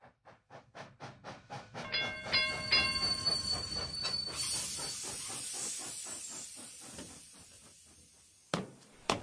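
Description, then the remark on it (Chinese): An electric train on the Oimachi Line pulls into Jiyugaoka Station with rhythmic rail clatter, a few bright electronic tones overhead, then a long hiss of brakes or doors releasing air, ending with a couple of sharp clunks. “在自由之丘车站，从大井町线的电车上下来后，妈妈拉着小豆豆的手，正要走出检票口。”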